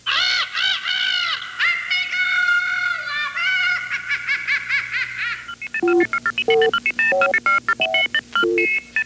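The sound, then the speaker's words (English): A bird squawks and caws loudly in a frantic run of rising, wavering calls as it gets a worm, then a quick series of short, clipped electronic beeps follows, clear with no talking. “Another monitor sound, the sound of an early bird getting the worm.”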